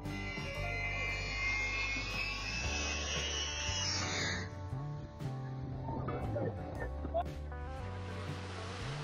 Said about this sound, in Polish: A co powiecie na ten spektakularny low pass śmigłowca wojskowego? Niesamowity widok, naprawdę chciałbym znaleźć się na tej plaży.